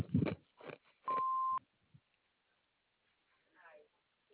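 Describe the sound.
A single steady answering machine beep, about half a second long and fairly loud, over a narrow telephone-quality line, with brief voice fragments just before it and faint speech a couple of seconds after.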